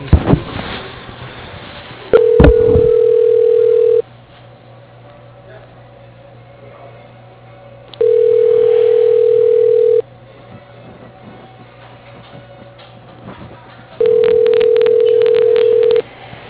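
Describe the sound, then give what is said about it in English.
A phone line rings while a call is transferred to a cell phone number: three steady, mid-pitched ringback tones, each about two seconds long, separated by regular pauses over a faint line hum. “Let me transfer you to his cell phone number.”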